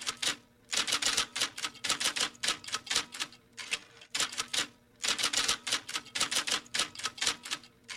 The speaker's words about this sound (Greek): Η στενοτυπίστρια είναι μια κυρία που με τη βοήθεια μιας μικρής μηχανής στην οποία πληκτρολογεί αφηρημένα, καταγράφει μια ομιλία, μια συνέντευξη, μια συζήτηση την οποία έπειτα μεταγράφει ξανά ολόκληρη, παλιότερα στη γραφομηχανή, σήμερα σε υπολογιστή.